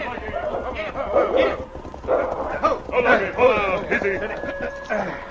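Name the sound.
dog barking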